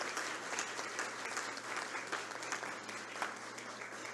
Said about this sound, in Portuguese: E pedimos assim, mais uma vez, uma salva de palmas à professora Maria.